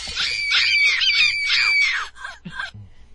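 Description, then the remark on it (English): A high, eerie scream wavers and rises for about two seconds, then breaks into a couple of shorter strained cries before fading to near silence. “Wait a minute, who's that? Who's screaming? Sounds like a doll.”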